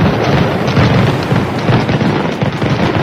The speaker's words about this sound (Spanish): Se potencia este año los disparos de pirotecnia en Gandía organizados por el ayuntamiento. Además de les masquetaes, de los días de fallas.